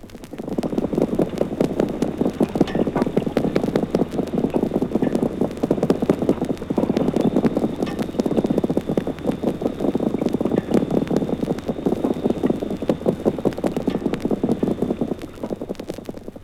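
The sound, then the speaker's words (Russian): A dense underwater chorus of drumming fish, a continuous crackle of rapid low thumps and knocks swelling and easing in loudness, with a faint steady hum running beneath. “В Азовском море тоже записаны шумы барабанящих рыб, но их частотный состав и ритм совершенно иные.”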